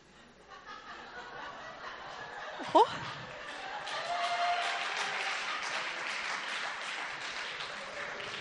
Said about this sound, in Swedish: Det där var en applåd som jag verkligen inte förstod. Men no offense, jag tar inte alls illa upp.